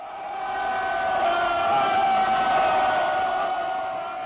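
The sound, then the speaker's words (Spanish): A large stadium crowd at a first-division football match in the Czech Republic roars with a steady wash of booing and sustained whistling, building slightly then holding loud and dense throughout, with no clear individual voices. “Silbidos y abucheos del público se oyen cada vez más en los estadios durante los partidos de fútbol en la República Checa.”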